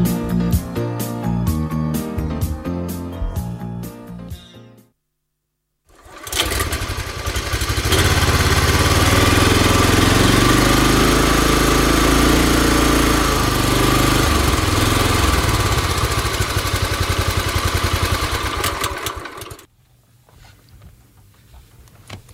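A few seconds of music and a brief silence give way to an old tractor engine running: a loud, steady, throbbing rumble that holds for about thirteen seconds before cutting off.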